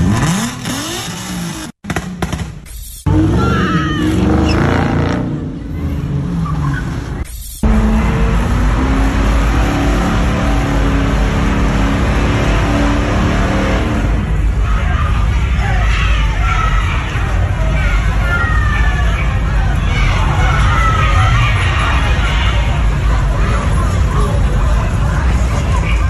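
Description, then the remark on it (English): Loud, continuous chaos of cars revving and tires skidding at a street takeover in downtown Memphis, in front of the Orpheum Theater, with kids hanging out of the cars and a shouting, cheering crowd throughout, briefly cutting out near the start before surging back. “there was one of these street takeovers where you had all of these black kids in their cars, and they were causing all sorts of mayhem”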